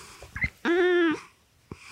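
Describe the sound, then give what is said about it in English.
A black cat lets out one loud, drawn-out meow into a microphone, steady and nasal for about half a second, with soft snuffling and handling noises before and after. “That's a pretty hot opinion, kitty.”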